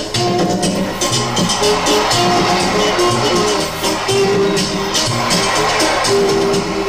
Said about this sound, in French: Mais c'est Sico en pleine forme qui sort de sa cage et cueille le ballon sous les applaudissements de ses supporters.